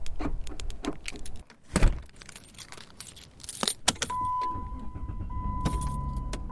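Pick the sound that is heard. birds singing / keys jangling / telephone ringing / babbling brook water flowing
keys jangling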